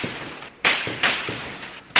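Sharp, loud cracks of gunfire ring out at irregular intervals, about four shots in two seconds, each with a short ringing tail, and no one speaks. The bursts come from clashes between security forces and criminal gangs in western Caracas, Venezuela.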